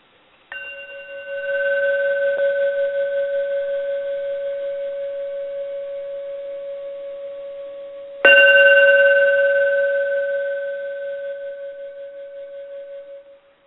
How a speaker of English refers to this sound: So since we're talking about mindfulness tonight, let's begin by just listening to the sound of this beautiful handmade bell.